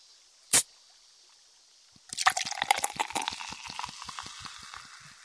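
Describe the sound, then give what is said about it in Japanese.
A short sharp hiss, like a bottle cap being twisted open, then sparkling water poured: rhythmic glugging under a dense, crackling fizz that slowly settles. No one speaks. “そうだ、ちょうどここに炭酸水があるので。”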